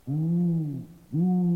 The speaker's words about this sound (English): We're here. This is where the owl lives.